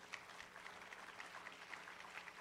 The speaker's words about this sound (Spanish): ¿Cuánto le dan un fuerte aplauso al Señor?